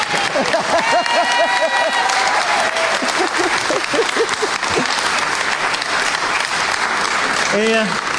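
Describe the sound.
Sustained applause from an audience, a dense steady wash of many hands clapping at full volume, with indistinct voices and brief cheers mixed in throughout.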